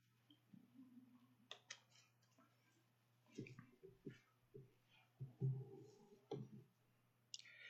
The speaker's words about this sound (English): I'm going to take a drink here of water.